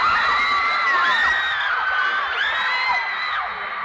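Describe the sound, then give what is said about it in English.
A dense, loud concert crowd of fans shrieking and cheering continuously, high-pitched screams and whoops layered over one another with no let-up, filling the whole scene. “Are you here to listen to music or just to have a lot of fun shouting?”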